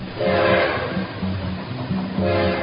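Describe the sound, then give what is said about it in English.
A train horn sounds in several sustained chord blasts, over the steady rumble of a train rolling along the tracks, loud. “Swap Shop trains coming, rolling down that free market track.”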